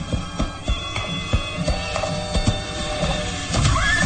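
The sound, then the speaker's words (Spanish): A horse's hooves clop in an uneven rhythm as its rider stops it in a swampy region, with a brief rising whinny near the end. No one speaks. “Detiene el caballo y desmonta sigiloso, empuñando el rifle de alto poder”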